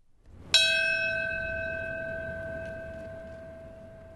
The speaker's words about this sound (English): In New York City this morning, a moment of silence and the ring of a bell marked the minute 5 years ago when the first of two planes crashed into the World Trade Center.